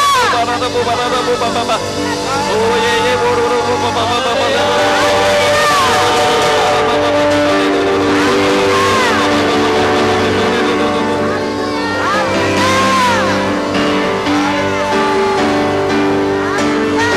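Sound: audience applauding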